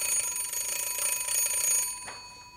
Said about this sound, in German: Ah, vielleicht ist das für mich. Das Telefon ist auf keinen Fall für dich.